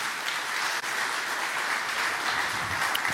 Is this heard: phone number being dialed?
no